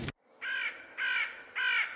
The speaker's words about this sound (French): Des corbeaux volaient, corbeaux noirs comme le jet, en poussant des cris, comme s'ils voulaient annoncer la mort.